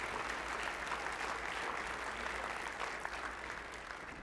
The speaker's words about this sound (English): So let's give the Lord a clap offering.